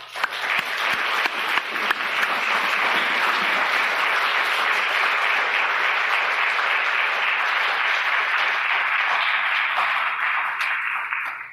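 A crowd applauds a speaker after a talk on trading, finds and excavations, steadily for about eleven seconds, a dense wash of many hands clapping at an even, loud level that tapers slightly at the end. No one speaks over it.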